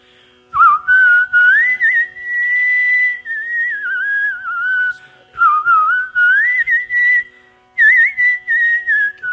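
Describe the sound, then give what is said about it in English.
A man sitting cross-legged on a stage at a whistling event whistles a traditional Indian song, a loud, clear melody of long sustained notes with sliding, bending pitches, broken into several phrases by short pauses, with no talking. “Unlike most of the performers, he sat on the stage with his legs crossed and whistled a traditional Indian song.”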